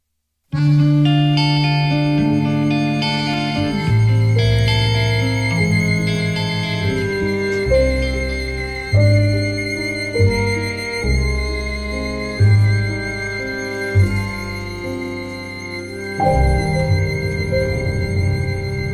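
A recorded instrumental music track plays alone, with sustained, slowly shifting melodic notes and chords at a fairly steady, moderate level throughout, without a clear fade in loudness.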